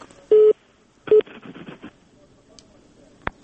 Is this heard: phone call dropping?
yes